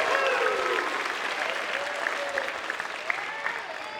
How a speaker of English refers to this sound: Well, let's give a big, warm round of applause